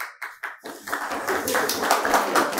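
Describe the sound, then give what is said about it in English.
A few scattered claps at first, quickly swelling into steady, dense applause from an audience at a raffle announcement, continuing to the end. “It's nothing to clap about.”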